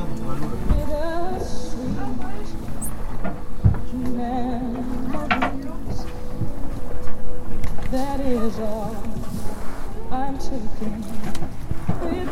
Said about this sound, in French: On est au près, c'est-à-dire que le vent, il nous arrive presque en face. Et là, on est à la sortie du golf.